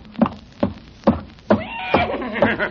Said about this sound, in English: Good heavens, there is a horse in the kitchen. Not anymore. He's coming right here.